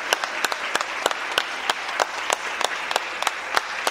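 An audience applauds a person being thanked by the staff of Jean Lafitte National Historical Park: a steady, dense wash of clapping with sharper individual claps standing out at a brisk, uneven rhythm, holding at an even, moderate level throughout with no voices.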